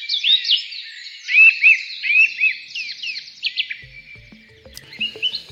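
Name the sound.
birdsong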